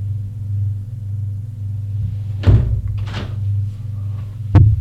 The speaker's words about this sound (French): Elle aboutit à une autre porte. Il l'ouvre.